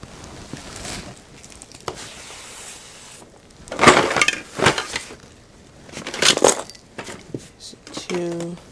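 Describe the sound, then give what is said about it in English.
Metal keys and small metallic objects jingle and clatter in several bursts, with brief pauses between. A voice briefly speaks near the end. “A one, some keys, some jingly things, some more jingly stuff.”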